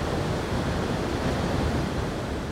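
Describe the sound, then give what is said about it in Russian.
A waterfall's steady, unbroken rush of falling water fills the scene, a dense roar heard from a distance, constant in level with no voices or other sounds. “Вдалеке уже слышался шум водопада.”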